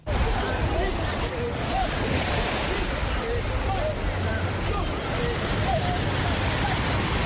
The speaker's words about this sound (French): À la plage d'Angor, samedi matin, ils sont plus d'une cinquantaine dans l'eau, munis d'un gilet et d'une bouée. Ils suivent à la lettre les consignes du moniteur.